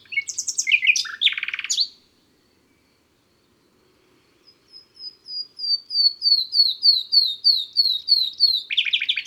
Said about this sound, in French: Enfin, c'est en avril que revient le rossignol. Difficile de ne pas l'entendre, il chante jour et nuit.